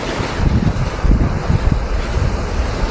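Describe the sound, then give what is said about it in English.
Steady, loud rush of wind buffeting over rough sea in a severe gale around the ship John P. Best, with low rumbling surges and gusty swells running continuously throughout, no voices present. “The moos could be heard, the creaks of wood, whoosh of the wind.”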